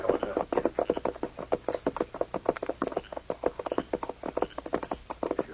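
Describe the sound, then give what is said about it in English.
Horse hooves clip-clop in a quick, steady rhythm, a long run of sharp knocking beats, moderately loud, with no voices. The horse is Scout, Tonto's horse, in dense timberland. “Hey, a horse is nearby.”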